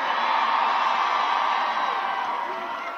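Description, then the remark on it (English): A large rally crowd in Washington Square Park, New York City, cheers in a steady, dense roar of many voices, loud and unbroken for the whole stretch, easing slightly toward the end. “I mean, he gets it wrong here in his prediction, but listen to the sound of the support. This was in Washington Square Park last Wednesday in New York City.”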